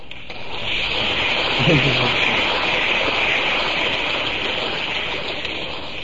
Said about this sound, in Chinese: 这鼓掌表示是很赞成。